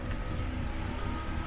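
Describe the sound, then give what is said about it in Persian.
A man gets into a car and drives away, its engine a steady low rumble, with no talking over it. “مرد برمیگرده، میخوره به شیشه، سوار ماشین میشه، میره.”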